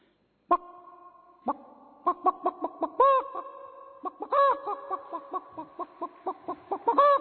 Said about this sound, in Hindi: रात पूरी हुई, दिन हुआ, पशु पंछी जल्दी उठ जाते हैं क्योंकि उनके पास इंटरनेट नहीं है, चिड़िया चहक रही है, कोयल मुर्गी जगा रही मुर्गे को,